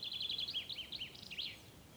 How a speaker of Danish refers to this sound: Du nyder skovens kølighed. Du hører fuglene synge. Sollyset mellem stammerne skinner på skovbunden.